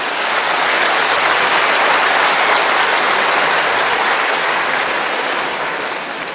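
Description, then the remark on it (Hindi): Steady, dense applause from a crowd, a loud continuous wash of many hands clapping that holds even for several seconds before easing slightly at the end, with no voices. “ताली बजाना तो आता है ना, वो भी भूल गए।”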